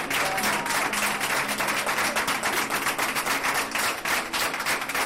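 A crowd of hospital staff, including porters, cleaners and nursing assistants from the whole ward floor, applauds together in a hospital corridor. The dense, steady patter of many hands clapping at once stays loud and even for the whole stretch, with no voices breaking through.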